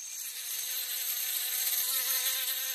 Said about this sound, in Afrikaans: Muskiete wat om haar kop rond zoom. Sy kan glad nie slaap nie. En hoeveel sy hulle ook al probeer wegjaag, dit help net mooi niks nie.